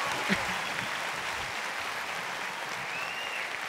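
Steady, sustained applause from a crowd fills the whole stretch, a dense wash of clapping at even loudness with a faint murmur of voices beneath it.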